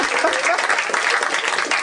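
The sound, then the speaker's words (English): Steady applause from a crowd, many hands clapping in a dense, even wash of noise that holds a constant loudness throughout, with no voices standing out. “Now applaud, kazoo.”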